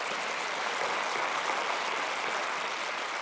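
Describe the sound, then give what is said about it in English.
An audience claps steadily for a few seconds to show they agree that sex trafficking is wrong, a dense, even wash of applause that holds at a constant level throughout, with no voices over it. “Just by applause, who knows sex trafficking's wrong?”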